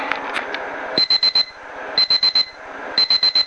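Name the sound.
alarm clock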